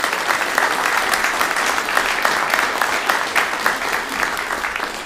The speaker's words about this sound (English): I want to say a special thank you to our presenters, singers, musicians, for being absolutely amazing tonight. I think they deserve a round of applause. Thank you very much.